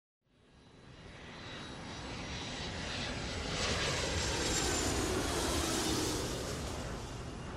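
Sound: airplane jet engine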